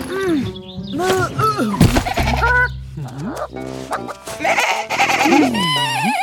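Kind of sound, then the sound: animal, goat bleating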